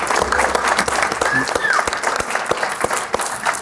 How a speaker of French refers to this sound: Rapidement, je veux vous remercier d'avoir été là aujourd'hui. C'est vraiment apprécié. C'est vraiment plaisant. Une bonne main d'applaudissements à tout le monde.